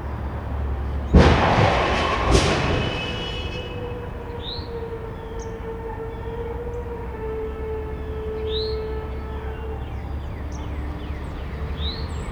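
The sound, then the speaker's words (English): A car crash recorded on March 30, 2016, at a house in North Carolina: two loud, harsh impacts about a second apart, followed by a long, fading metallic ringing, then quiet with a few bird chirps in the background. “Here are just a few examples of some of the not-quite-expected sounds I've recorded over the years, including this car crash from March 30th, 2016, recorded at my parents' house.”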